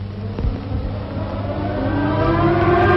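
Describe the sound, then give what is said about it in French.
Air raid sirens wail steadily, their tone slowly rising and growing louder over a low rumbling background, with no voices present. “Et pour la première fois, le cri des sirènes devient un chant, et les cloches de tous les clochers s'ébranlent pour un nouveau Noël, la naissance d'une nouvelle paix pour les hommes de bonne volonté.”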